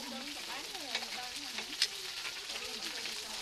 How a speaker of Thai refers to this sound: ขั้นแรกก็จะเอาเนื้อไก่ที่หั่นเป็นชิ้นเล็กๆผสมกับไส้กรอกสเปนหรือชอริโซลงไปทอดในน้ำมันมะกอกในกระทะที่มีก้นตื้นจนกระทั่งเหลืองจากนั้นก็นำขึ้นมาพักไว้นะคะ